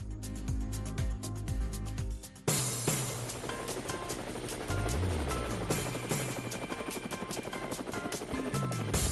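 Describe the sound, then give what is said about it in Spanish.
Helicopter rotor blades thump in a steady, rapid rhythm over a dense roar of engine noise, loud and sustained throughout with a brief shift in tone partway through, in cold weather. “Bueno, amigos de Cuba, están ustedes escuchando las tapas del helicóptero.”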